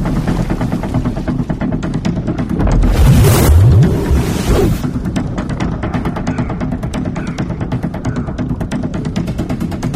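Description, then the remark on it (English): Rough ocean water churns steadily with wind buffeting, swelling into a louder rushing surge of water around the middle before settling back to a constant, rhythmic wash. “There's a disturbance in the ocean!”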